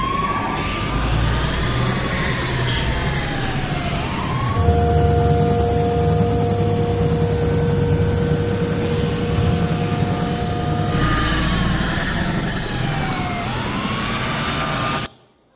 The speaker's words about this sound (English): there was a police car chase in Saskatoon, Canada on the news. You guys remember watching it? It's awesome. You got to see this. It's a police car chase, Saskatoon, Canada.